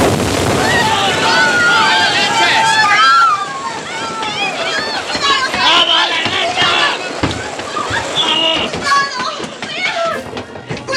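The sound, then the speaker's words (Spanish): A crew stampeding across the deck of a sinking, increasingly listing ship after its boilers exploded, running for the lifeboats: many voices shouting over one another, loud, above steady wind and water noise, with a couple of heavy thuds. “Una estampida se desata a bordo del barco Fuki que se inclina cada vez al hundirse.”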